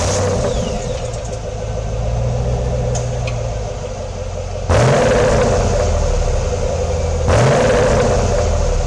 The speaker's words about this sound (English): And if she's off at 11, be outside with your lights out and the engine revving.